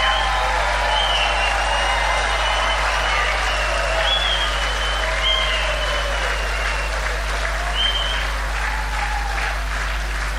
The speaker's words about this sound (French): Ça, c'était maintenant l'exubérance. Maintenant, on va continuer à applaudir en devenant tout doux